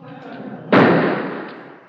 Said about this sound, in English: That. Did you hear that? If I could hear that, I'd be in the Coast Guard. Gunshots must be murder. Follow me.